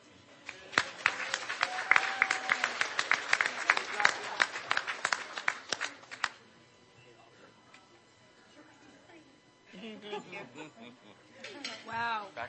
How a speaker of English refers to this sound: Let's give all the scholarship winners another round of applause as a group.